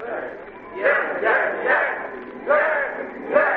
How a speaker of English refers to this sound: And, what's that out there? What are the men yelling about? Where's it coming from? I think it's in the recreation yard behind the jute mill, sir. Maybe a fight.